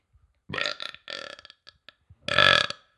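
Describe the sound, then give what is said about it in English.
A loud burp snort in several bursts, starting with a croaky belch, a couple of quick grunting snorts, then a final long, rasping belch. “With a burp snort.”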